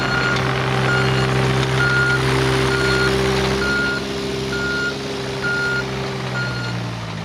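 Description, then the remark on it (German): A heavy excavator levels the ground in the morning on Bahnhofstrasse for a new Raiffeisenbank Untersee und Rhein building beside the old Villa Rosenheim. Its engine drones low and steady while a high reversing alarm beeps evenly about every half second. “Der Bagger ist heute Morgen nur aufgefahren, um den Boden zu ebnen für einen Neubau, der neben der alten Villa entstehen soll.”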